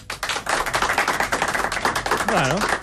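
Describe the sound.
A crowd applauds with dense, continuous clapping that holds steady throughout, while a few voices and a brief whoop rise over the noise near the end.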